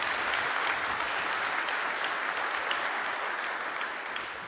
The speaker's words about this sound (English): So let's give a big round of applause to our team, and thank you all for being here at the conference.